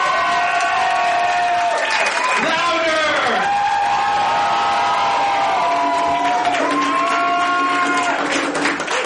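A live audience at a show cheers and claps steadily for several seconds, with loud drawn-out whoops and shouts rising and falling over a dense wash of applause.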